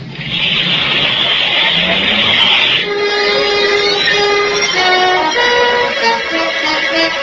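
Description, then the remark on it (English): A hissing rush gives way to a loud, steady engine hum whose pitch climbs and shifts in steps, like a fully fuelled car, started by working the wires under its dashboard, starting up and pulling away. No voices. “All gassed up, too. Nice of the jack who owns this bug.”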